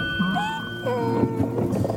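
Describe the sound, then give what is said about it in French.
A person mimics a donkey's bray, producing loud, strained honking tones that waver and slide up and down in pitch for about two seconds without a break. “Le vrai bruit de l'âne. Non, c'était quelqu'un qui l'a fait.”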